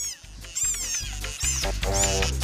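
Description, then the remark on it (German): A short-headed frog, which lives on the beach, lets out repeated shrill, wavering squeals that sound much like a mewing kitten, several high-pitched cries in a row over a low background rumble. “Der Kurzkopffrosch wohnt am Strand und schreit wie eine Babykatze.”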